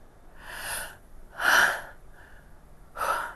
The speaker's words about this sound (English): And then I got in the water, and it's cold, right? I mean, this was just a natural reaction to the cold. I gasped